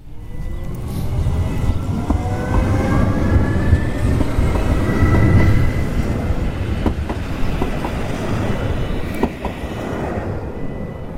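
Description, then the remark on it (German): A train rolls into the railway station at Urnäsch with a steady low rumble and clattering wheels, faint squeals and metallic clicks rising as it slows, continuous for the whole stretch with no voices. “holt mich am Bahnhof zu Urnäsch ab.”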